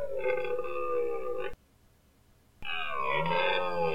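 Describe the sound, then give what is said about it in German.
Two long, sustained bellowing calls of a red deer stag, each about one and a half seconds, rich in harmonics and slightly falling in pitch, separated by a short silence. “Das Rotwild, die Hirsche, das gerade eben war ein Hirsch”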